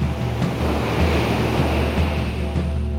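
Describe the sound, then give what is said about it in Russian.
High sea waves crash and churn in a steady, loud roar of surf, with wind gusting over the water and no voices present. “Тут же ударил серебряный владыка хвостом по морю, и сомкнулись высокие волны.”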